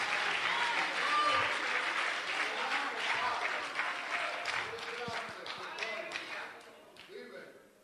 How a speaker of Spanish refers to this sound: Si usted le puede dar un aplauso, porque esos son los verdaderos aplausos, los que se le dan a Rey de Reyes y Señor de Señores, no a los hombres.